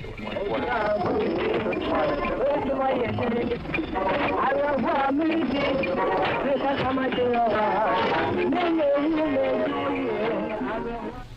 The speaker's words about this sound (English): Here now is an example of co-channel interference.